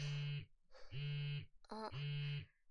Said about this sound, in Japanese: あれ、先輩の携帯着信なってるよ。